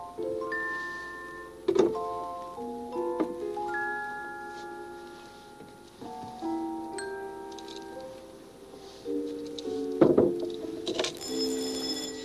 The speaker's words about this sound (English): There's the back doorbell. Let's see who it is.